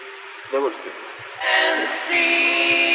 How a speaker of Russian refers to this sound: А что, давай джингл послушаем.